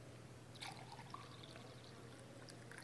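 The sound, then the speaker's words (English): Liquid is poured into a cup in a brief, quiet splash with a faint trickle and a few drips, alone over a low steady hum. “poured it out and blessed it and gave thanks”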